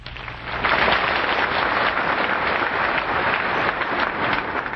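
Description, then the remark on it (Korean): A crowd claps steadily to welcome a teacher, a dense wash of many hands that rises quickly at the start and holds at a fairly loud, even level throughout, with no voices. “네, 스승님을 환영하는 박수를 한 번 더 해주시기 바랍니다.”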